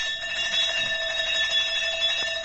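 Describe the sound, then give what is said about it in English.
A doorbell rings continuously at a factory door at night to call the night watchman, a shrill, steady electric buzzing-ring of bright layered tones that holds without a break for the full couple of seconds, with no voices. “Just bob out of sight when I ring this bell and wait for instructions, right?”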